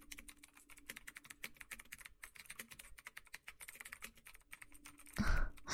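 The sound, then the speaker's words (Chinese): Rapid, uneven clicking of keys on a computer keyboard, steady for several seconds, ending in a louder burst of noise near the end, as someone works at home late at night on leftover documents. No one speaks. “没听到我敲键盘的声音吗？”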